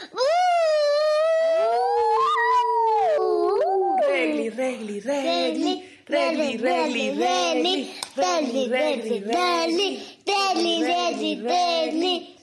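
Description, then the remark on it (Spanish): A person imitates a wolf howl, a long, loud gliding wail lasting a few seconds, followed by several bursts of animated talking. “Y de lobo.”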